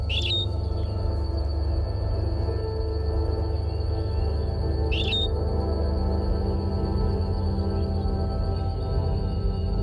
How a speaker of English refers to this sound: And because of the isolation of the Galapagos Islands, this finch that's singing now has a direct genetic connection to the finches that Darwin heard singing when he was here on the Galapagos Islands in the 1830s.